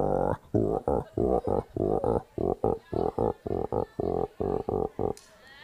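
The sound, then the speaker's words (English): A man's voice imitates a frog with a rapid series of about sixteen deep, throaty croaks in a steady rhythm. The sound is fairly loud, with no other sounds around it. “A frog.”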